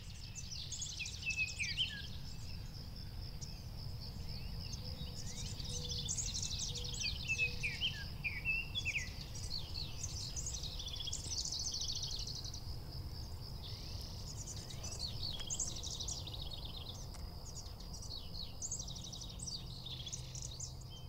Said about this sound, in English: Now, let's try to pick out separate sounds one at a time. Can you hear the sounds of birds waking up with the sunrise? Listen for a different call of a different bird.